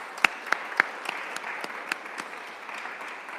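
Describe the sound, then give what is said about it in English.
A round of applause from a group: a few sharp, loud claps stand out at the start, then a steady patter of many hands clapping continues evenly with no voices. “I think a round of applause there would be appropriate too.”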